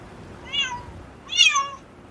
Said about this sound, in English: Are you speaking cat right now? That's how good it is. Cat. Wow. It learned from cats. No, I used the human to cat app.